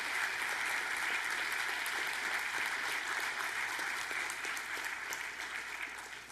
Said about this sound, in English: Anybody believe that? Come on, clap your hands and give God praise.